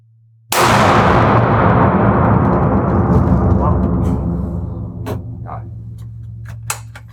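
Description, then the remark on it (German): A second shot from a hunting rifle: a single loud gunshot cracks sharply, then rolls away in a long, echoing tail that fades over several seconds, with a few faint clicks afterward. “Gut, zweiter Schuss.”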